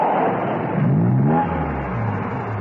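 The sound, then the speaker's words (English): A car engine revs loudly and steadily as the car comes round the corner of a lane, its pitch climbing and dipping as it accelerates, with a continuous rumbling drone underneath and no voices. “When Steed's car appeared round the corner of the lane, she slipped out and thumbed a lift.”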